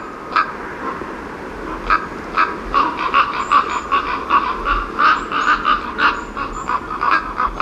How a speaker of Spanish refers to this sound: hace 10 días en el puerto de Navacerrada, muy cerquita de mi casa, a 1900 metros de altura, en el pinar completamente nevado, al atardecer se reunían 50-60 cuervos. Hola, en un dormidero, a pasar la noche al calor de la compañía, podemos decir.